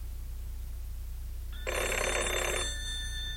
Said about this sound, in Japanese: 電話だ。